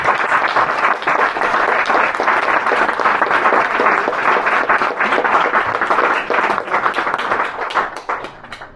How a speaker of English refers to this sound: So on that note, I'd like to end, and perhaps, I know, we can clap, but and then I'd like to introduce a couple of people to you all.